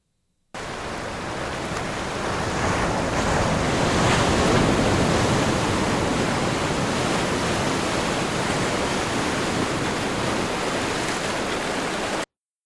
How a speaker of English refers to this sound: Now, if you heard that, some of you are going to hear that and go, oh, come on, man, I know exactly what that is. That's just waves crashing on the beach.